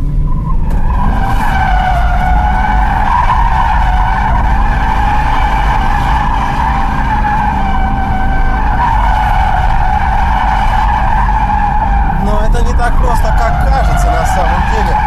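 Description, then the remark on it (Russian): A rear-wheel-drive car skids with a loud, sustained tire squeal, a steady high-pitched screech over a deep engine rumble that wavers and breaks up near the end. “А вот и слушайте визг. Не, отлично. Это заднеприводный автомобиль, чтобы вы понимали.”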